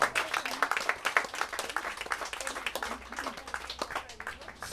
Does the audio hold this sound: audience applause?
yes